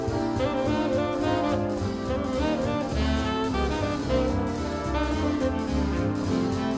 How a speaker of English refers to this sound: So here's that harmony you just heard, but now accompanying a tenor sax solo above it.